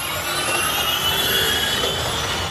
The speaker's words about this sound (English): Formula E drivers revved their engines recently in Britain at the Donington Park circuit